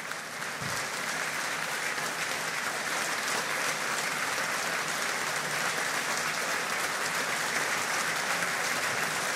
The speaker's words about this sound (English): Warm applause here in St. Patrick's Hall as the new president looks around the room smiling.